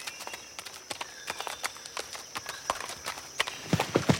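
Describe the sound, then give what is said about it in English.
Irregular, scrabbling clip-clop of horses' hooves slipping on steep, uneven, muddy ground on a mountain trail in Mongolia, with uneven rhythm, growing louder and busier toward the end. “Really steep in here and uneven. Horses are slipping all over the place.”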